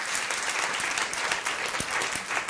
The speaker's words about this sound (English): So first a question for the room. Clap if you voted in the 2008 presidential election. Made me feel like the most popular guy in New York. Clap if you voted in the 2010 midterm election.